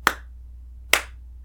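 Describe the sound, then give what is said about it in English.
A woman raises her hands and claps twice: two sharp, crisp hand claps spaced just under a second apart, with a quiet low hum underneath and no voices. “raises her hands and claps twice.”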